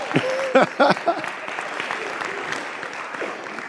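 An audience applauds, a dense, steady wash of many hands clapping that carries on throughout, with a few louder bursts near the start before settling into an even patter.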